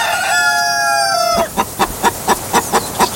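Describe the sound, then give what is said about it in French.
A short jingle for the Hit West radio game 'le chiffre à la coque' opens with a rooster's loud, drawn-out crow, then cuts to a quick series of about eight rhythmic hen clucks, evenly spaced, with no talking. “Une poule vient de nous pondre un chiffre.”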